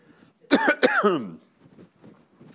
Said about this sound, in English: You know, this is preacher's cough. You know, everything is fine.